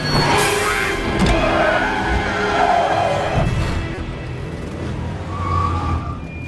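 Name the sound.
car speeding and skidding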